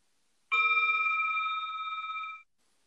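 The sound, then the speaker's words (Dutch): A small bell is struck once to close a short mini-pause of turning attention inward, ringing out with a clear, bright, shimmering tone that holds steady for about two seconds before stopping abruptly. No one speaks. “Dus ik zal ter afsluiting weer het belletje laten klinken.”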